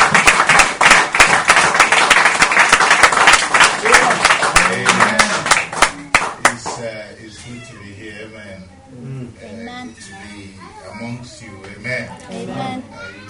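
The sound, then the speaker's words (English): A crowd claps loudly and steadily for several seconds in praise of the Lord Jesus Christ, a dense wash of many hands that stops abruptly, then a man's voice speaks. “Let's clap to the Lord Jesus Christ.”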